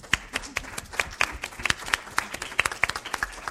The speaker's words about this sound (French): Je vous invite, donc on peut applaudir tout le monde bien sûr.